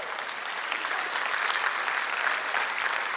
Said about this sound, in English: That's a little better golf clap than I even got in the first service.